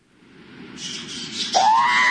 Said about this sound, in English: R5-L4 screeched and wailed pitifully, sparks flying from its head as the insect creature's acid-secreting pincers slashed and tore, digging into metal as easily as if it was packed soil.